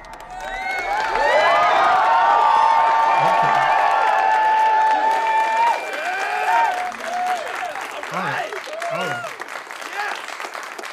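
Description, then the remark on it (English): Loud applause and cheering from a crowd, with dense clapping and high whoops and shouts layered on top, sustained for several seconds before thinning into scattered voices and calls. “You know, these applause, they're really loud in my ear.”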